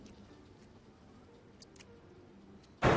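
A few faint ticks and taps give way to a sudden loud bang right at the end as someone shuts a door hard.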